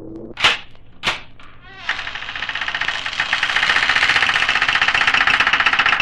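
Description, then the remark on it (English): Two sharp clicks, like a latch being worked, then a door swings open with a long, loud, grinding creak that grows stronger and keeps stuttering for several seconds. No one speaks. “I'll try the door.”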